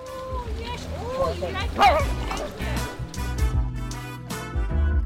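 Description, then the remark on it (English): A dog barks in short, repeated yips at the Milken Institute Global Conference in Beverly Hills, California, over a busy background, with voices murmuring and a low rumbling hum underneath, the barks moderately loud. “Global Conference in Beverly Hills, California, where the most powerful politicians and business leaders in the world, and some dogs, have gathered.”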